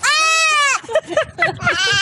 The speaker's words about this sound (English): Here's a baby that sounds like a goat.